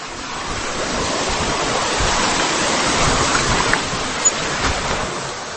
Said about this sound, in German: Der Wasserfall ist mehrstufig.